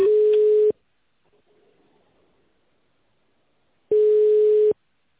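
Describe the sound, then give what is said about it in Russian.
A telephone ringback tone sounds while a call to the company Center for Nuclear Medicine Development connects after its recorded greeting: two steady, mid-pitched beeps, each under a second long, separated by a long quiet pause with only faint line hiss. “Пожалуйста, оставайтесь на линии. Происходит соединение.”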